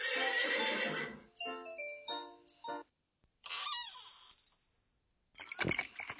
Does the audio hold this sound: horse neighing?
yes